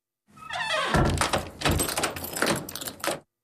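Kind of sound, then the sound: household object, door being opened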